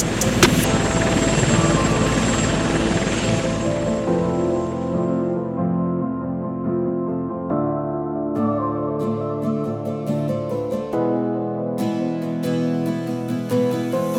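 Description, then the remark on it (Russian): A loud helicopter whirs with a steady rotor chop for the first few seconds, then fades as a sustained musical backing with crisp percussive hits takes over. “Наш народ улетает грузом 200 с Украины на Россию вертолет.”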